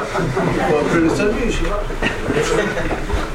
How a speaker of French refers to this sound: Je suis dans le métro.